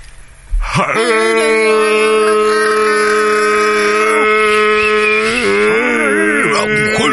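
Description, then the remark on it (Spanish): Human voices imitate a cow's moo: one long, loud, droning call held for several seconds, with a second higher voice layered on top, bending in pitch near the end. “Y unas vacas que vienen abrigadísimas, están preciosas.”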